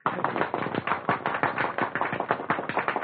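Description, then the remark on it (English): A crowd applauding steadily, a dense patter of many hands clapping at once with no pauses, fairly loud and even throughout, with no voices standing out. “They're applauding, and the band is beginning to play.”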